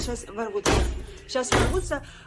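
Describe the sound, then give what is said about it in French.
Two heavy, booming slams against a door, about a second apart, as police force the door open during an arrest, with a voice speaking between and around the blows. “Ça y est, la police force ma porte, mais je n'ai pas peur, je ne vais pas abandonner.”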